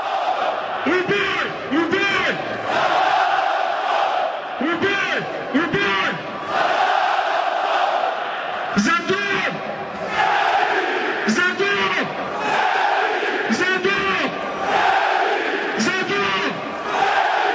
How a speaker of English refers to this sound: Let's listen to the chant that Mr. Simunic, who, by the way, was born in Australia, we will listen to the chant that he led after Croatia's World Cup qualifying match with Iceland.